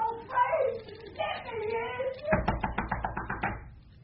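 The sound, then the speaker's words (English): A voice calls out, then a rapid burst of about ten sharp knocks raps out in quick, even succession before fading. “A ghostly silence succeeded to the knocking.”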